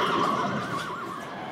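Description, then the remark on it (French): A horse whinnies once, a shrill, wavering neigh that trembles up and down in pitch over about a second and a half, with no voices. “Hans le Malin, le cheval qui savait lire et compter.”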